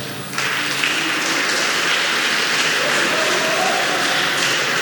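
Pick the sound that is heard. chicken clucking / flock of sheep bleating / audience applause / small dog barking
audience applause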